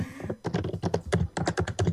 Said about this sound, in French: Mais qui est en train de taper très fort sur son clavier comme ça ?